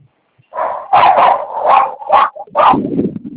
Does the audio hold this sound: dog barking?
yes